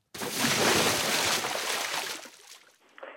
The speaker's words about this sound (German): Jemand ist ins Wasser gesprungen.